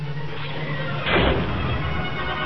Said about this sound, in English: Fire and a blinding glare erupted through Slave One's cargo hold. Boba Fett felt himself being thrown backward as the hold's grated flooring ripped into pieces from the explosion that pushed apart the ship's bulkheads